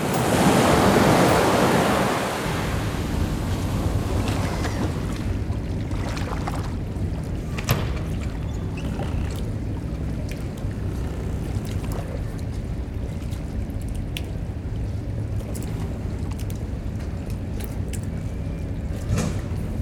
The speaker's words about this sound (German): Das Plätschern der Wellen, das Rufen, das Sprechen der Menschen, das Widerhallen dieser ganzen Geräusche, vor allen Dingen der Stimmen in den Gassen.